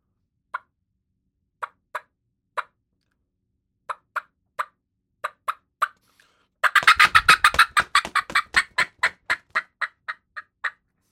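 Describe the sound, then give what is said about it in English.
An imitated hen turkey fly-down, a hen pitching off the roost to the ground: spaced, sharp clucking calls, then a sudden burst of loud, rapid wing-like flapping beaten with a hat, with the calls quickening through the flutter and trailing off. “And that's a hen pitching off the roost going down.”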